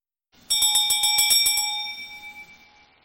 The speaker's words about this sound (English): As we hear the bells of Advent and Christmas, we ask ourselves, is there, can there be, where is this peace on earth?